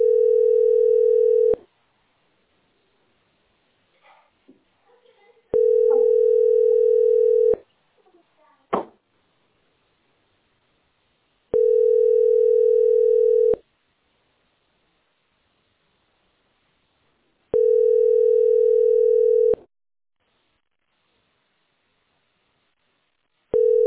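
A telephone dial tone sounds in steady, loud two-second bursts, repeating about every six seconds, with a few faint clicks in the quiet gaps and no talking.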